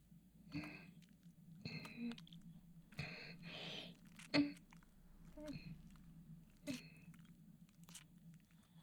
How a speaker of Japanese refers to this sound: じゃあこのたくさんのチンカスくんたちをもぐもぐするから見ててね。